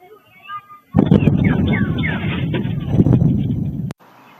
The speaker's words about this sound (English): Yeah, those are security cameras capturing the sonic boom made by those fighter jets.